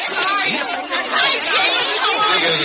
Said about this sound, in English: When they open those doors out there, there's a mad scramble for the ticket booth. Usher says it's a real stampede.